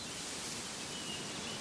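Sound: leaves rustling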